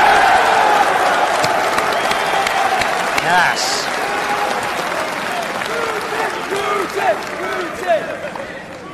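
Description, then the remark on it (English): Steady applause from a crowd fills the scene, dense clapping holding level throughout with scattered shouts and a voice or two cutting through near the end. “Who can we give a round of applause for Russia?”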